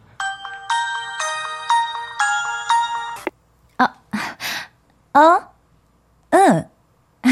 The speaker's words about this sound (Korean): 한창 식사를 하던 중 그녀의 핸드폰이 울렸다.